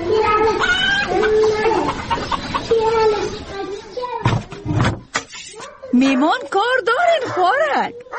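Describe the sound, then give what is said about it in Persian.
A dog barks and whimpers in a series of drawn-out, wavering yelps, broken midway by a few sharp knocks or bangs before the whining cries resume. “امی سگه که تا بگی که یک دفعه نگیریم چخه گم شو.”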